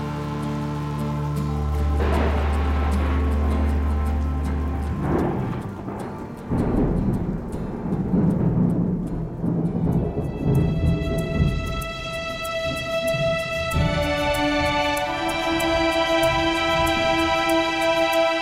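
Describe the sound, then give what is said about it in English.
A deep rumbling clap of thunder rolls out over steady hissing rain, while slow, sustained keyboard notes ring out above the storm and grow clearer toward the end. “a clap of thunder, and the band playing its slow burn down the horizon.”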